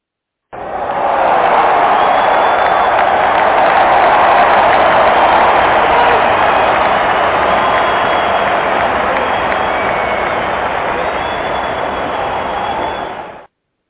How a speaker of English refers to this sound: Man, can y'all give us a round of applause real quick?